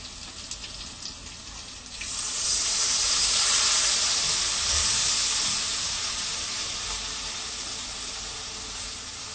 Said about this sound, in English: Now we're going to add some water, yeah? Yes, Master.